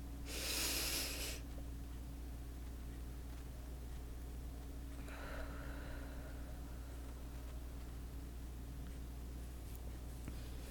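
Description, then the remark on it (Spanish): A forceful breath rushes out at the start, then a second, softer breath follows a few seconds later, with a steady low hum underneath and no talking; slow exhales during a guided breathing exercise. “Exhalamos. Una vez más.”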